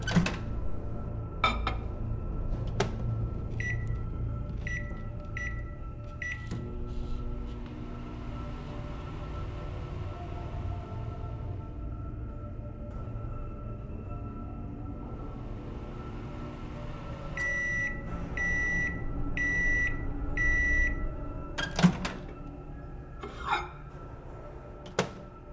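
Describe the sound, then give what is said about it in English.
A microwave oven heating a slice of pizza runs with a steady low hum after a few quick keypad beeps, then sounds four evenly spaced high beeps and the door clunks open, with no talking. “All right, I'll go heat that up for you.”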